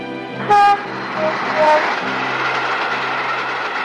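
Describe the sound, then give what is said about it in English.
A train rumbles past overhead, its steady, loud roar filling the whole stretch, with a short sharp toot of its horn near the start. “As the train passes above her, Miss Marple spots her ball lying in the grass.”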